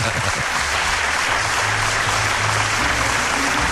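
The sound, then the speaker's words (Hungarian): A played applause sound effect of a sizable crowd fills the whole stretch, dense and even clapping at a loud, consistent level with no voices standing out. “Visszajöttek a tapsoncok.”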